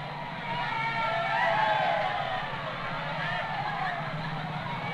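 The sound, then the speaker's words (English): The very last tram of Tooting and Balham, bearing the words "The last tram to and from the Odeon Balham, 50 years glorious service", rolls past with a steady, broad rumble and grinding hum, mixed with the murmur and babble of a large crowd, swelling slightly in the middle before holding level. “Here she comes. On the side, the words, "The last tram to and from the Odeon Balham, 50 years glorious service, Balham and District Chamber of Commerce."”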